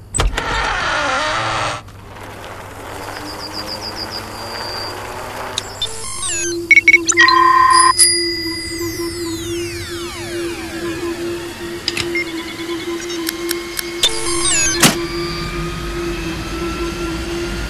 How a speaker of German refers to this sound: Dann schob sie das Düsenbike aus ihrem Erfinderreich und warf den Motor an.